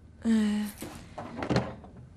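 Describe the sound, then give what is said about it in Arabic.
A door swings open with a short, drawn-out hinge creak, followed by a dull thunk and a few soft knocks and rattles as it moves. “بنت افتح الباب خليني اشوف رجليك.”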